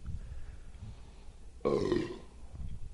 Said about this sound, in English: I've been working on it, you know. Until the belch happened.